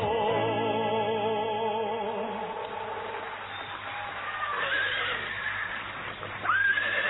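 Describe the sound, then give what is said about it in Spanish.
A horse whinnies loudly, a long quavering neigh that trembles for a couple of seconds before fading into softer, breathy snorting and buzzing noises. “Estoy repitiendo la pista a caballo.”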